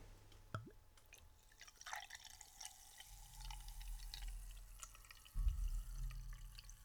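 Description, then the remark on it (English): Butterscotch root beer from a twist-off bottle poured into a glass, a steady liquid gurgle with scattered drips and fizzing, swelling louder toward the end as the glass fills; no one speaks. “Give it a pour.”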